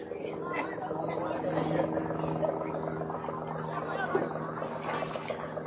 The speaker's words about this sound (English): You can hear the local helicopter above us.